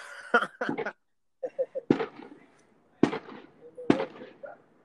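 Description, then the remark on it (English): Fireworks crack and pop in irregular bursts, several sharp bangs spaced a second or so apart, with quieter crackles in between and a faint murmur of voices underneath. “Yeah, so there's fireworks going off. Do you hear that?”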